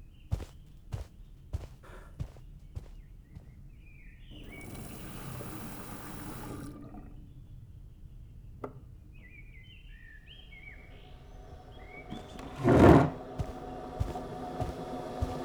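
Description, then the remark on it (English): Water runs briefly into a kettle, followed later by a solid clunk as it is set in place, with light footsteps and birds chirping in the background. “I'll just put the kettle on.”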